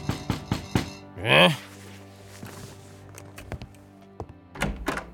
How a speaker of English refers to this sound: But Mr. Reeder's peaceful lunchtime reverie was cut short by frantic knocking at his front door.